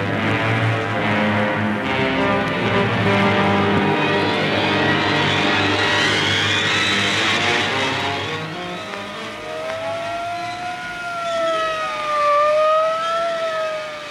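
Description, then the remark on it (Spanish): An ambulance siren wails loudly over the rumble of a revving vehicle engine, its pitch rising and falling in a steady, sweeping cycle, with no voices. “Él corrió al lado de su esposa, a la que estaban trasladando a una ambulancia.”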